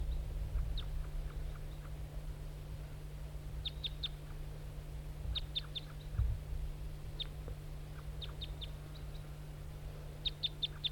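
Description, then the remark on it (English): A wild bird, a lone all-red male flying toward a net near decoy birds, gives short, high, thin call notes in small clusters of two to four, repeating every second or so over a steady low hum and background noise. “Back to the wild bird.”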